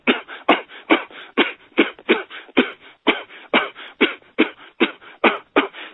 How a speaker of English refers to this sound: By then, after having been on those meds that long, my immune system was so obliterated, and I was on so many other different medications that I had developed a chronic cough nonstop 24/7 that sounded like this.